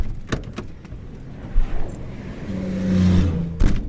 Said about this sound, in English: 3 lanes of cars and trucks keep barreling down the road toward our crippled car